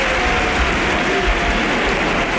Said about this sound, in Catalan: Ovació del Villamarín! Però no una ovació qualsevol, una ovació fortíssima!